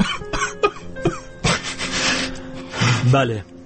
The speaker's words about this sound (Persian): گریه کن، گریه قشنگه، گریه مال دل تنگه.